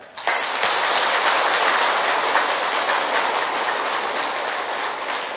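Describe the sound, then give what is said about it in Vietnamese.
A large audience of Buddhist followers at a dharma talk claps steadily for several seconds, the dense applause starting abruptly and holding at a loud, even level throughout, with no voices over it. “Nếu các quý vị Phật tử thấy rằng là tôi muốn được hạnh phúc đó, cần phải kết thúc những điều đó, đó là có thể thực hiện được, thì quý vị dâng cao tràng pháo tay thật lớn.”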